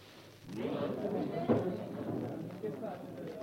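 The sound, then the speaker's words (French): Busy ambience in the Au Pied de Cochon bistro in Paris, among patrons including Les Halles market porters: a dense, steady murmur of many overlapping voices, with a brief clatter breaking through partway and a constant background hubbub throughout. “si vous le voulez bien, nous allons demander au technicien de faire démarrer le disque qui vous transportera dans l'ambiance du pied de cochon.”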